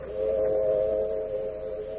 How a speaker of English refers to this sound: Tonight's FBI file opens in a railroad cut in the hill country of a New England state. It is late at night, and the whistle of a southbound freight is heard in the distance.